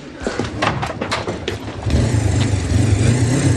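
motorcycle engine revving

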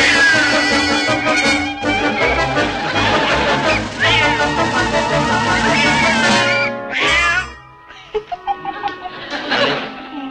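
cat meowing

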